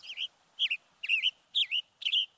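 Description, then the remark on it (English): A Western Tanager calls five times in a steady rhythm, each short, burry chirp clear against a quiet background with no voices. “Head over to our website and catch more on the Western Tanager”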